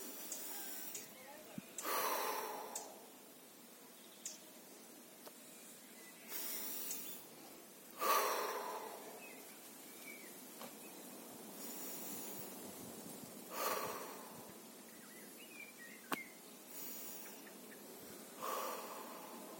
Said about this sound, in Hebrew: אני יושב, מרגיע את הגוף, נושם, נשימות עמוקות, ואז אני מביא את הפוקוס שלי לכאן, ואז אני מתחיל נשימות, סופר שבע נשימות. אני עושה.